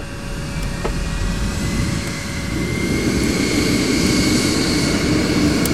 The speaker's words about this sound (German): Ganz sachte setzt sich der Jet in Bewegung, rollt aus dem Shelter, dicht gefolgt vom zweiten Jet,